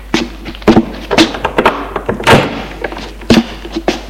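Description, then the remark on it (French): An apartment door being opened after the doorbell rings: a string of irregular wooden thunks, taps and latch clicks, moderately loud, with one fuller thud midway and no voices. “Il va ouvrir.”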